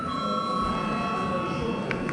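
A parliamentary voting call bell rings continuously for about two seconds, a steady, bright, buzzing tone that holds at an even loudness over a faint background murmur, rung to call a repeat vote on the sixth proposal after the previous vote lacked a quorum.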